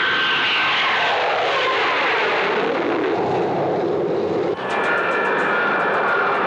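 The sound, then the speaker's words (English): A Lockheed U-2 reconnaissance spy plane taking off on its first test flight, its loud jet engine roar sustained throughout, with a whining high tone and a brief shift in the noise near the end; no one speaks. “The U-2 took off on its first test flight.”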